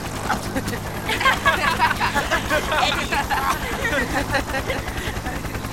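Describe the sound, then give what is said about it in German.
A helicopter rotor chops in a steady, rapid low thumping throughout at a snowy spot, about to whip up the snow, with a crowd of overlapping voices chattering on top of it. “Der Hubschrauber wirbelt gleich den ganzen Schnee auf.”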